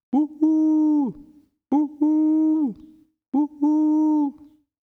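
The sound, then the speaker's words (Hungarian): A human voice imitates a long-eared owl's hooting three times in a row, each call a short clipped start followed by a sustained, loud hoot, with brief pauses between. “Tyuhuhu! Ez lesz az én nótám, kiáltotta a füles bagoly. Meg is tanulta mindjárt, és rá is kezdte.”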